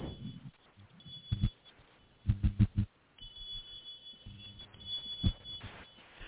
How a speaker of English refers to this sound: Can y'all hear that? Oh, like a whistle sound.